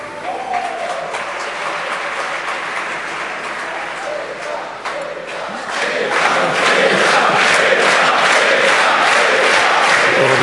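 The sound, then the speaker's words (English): A large audience at a quiz game cheers and claps loudly for a contestant, a dense roar of voices and applause that swells and grows even louder midway through, sustained throughout. “Cheering”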